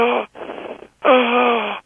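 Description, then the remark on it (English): A noisy, strained inhalation with a raspy, crowing whistle, heard as two drawn-in breaths with a breathy gap between, the second longer and louder with a steady, high-pitched tone. “But trouble breathing air in can sound like crowing, or even a noise like this.”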